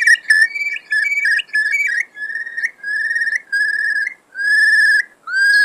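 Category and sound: bird, eurasian curlew call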